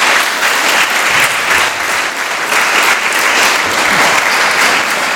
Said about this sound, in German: Und sie hat heute auch ihr 9-jähriges Dienstjubiläum. Dazu einen ganz herzlichen Applaus,